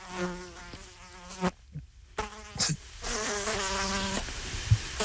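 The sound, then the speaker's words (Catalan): A mosquito's high, whining buzz passes by the microphone, rising and fading in several swoops with brief quiet gaps between them, loud. “Tenim un mosquit que està fent interferències a l'antena de Catalunya Ràdio.”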